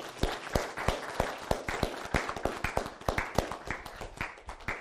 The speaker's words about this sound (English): Are y'all thankful for your dads, for the dads that are here this morning? If you are, let's praise the Lord by giving them a round of applause.